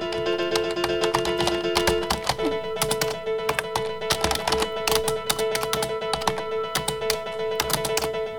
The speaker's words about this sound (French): C'est le bruit d'un clavier.